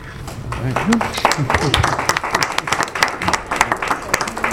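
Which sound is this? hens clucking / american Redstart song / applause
applause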